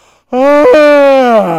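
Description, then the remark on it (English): A person imitates a lion's yawn with one long, loud, drawn-out voiced groan that slowly falls in pitch, after a brief quiet start. “yawning.”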